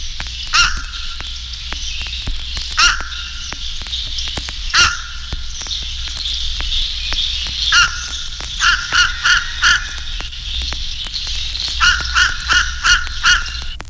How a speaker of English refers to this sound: The call of the fish crow is more abrupt and hoarse.